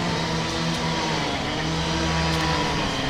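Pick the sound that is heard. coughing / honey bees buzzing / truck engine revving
truck engine revving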